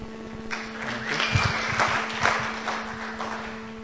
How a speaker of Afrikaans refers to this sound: Julle kan nou vir my hande klap, ek het donderdag 35 geword.